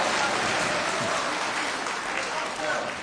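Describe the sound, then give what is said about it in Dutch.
Steady applause from a crowd for a music group, a dense crackling clatter of many hands clapping at once, holding at an even, fairly loud level for about three seconds. “Applaus voor de muziekgroep.”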